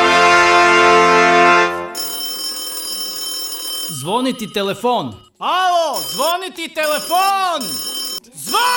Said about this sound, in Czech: Zvoni telefon! Javi se! Evo ga, telefon je zazvonio